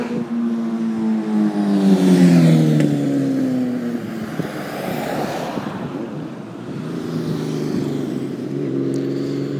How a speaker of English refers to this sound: Motorbikes. Anyway, that was lively, wasn't it?